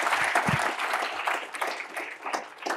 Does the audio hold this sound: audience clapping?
yes